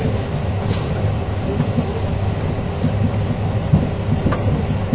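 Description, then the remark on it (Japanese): A train rolls steadily along the rails as it approaches Namioka station, with Aomori the stop after. It is heard from inside as a constant rumble with occasional faint clicks and clacks of wheels over track joints. No one speaks. “Ladies and gentlemen, we will soon make a brief stop at Namioka.”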